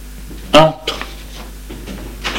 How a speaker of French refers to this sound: Le garde lui fait monter les escaliers de bois usé. Et au premier étage, il ouvre une porte.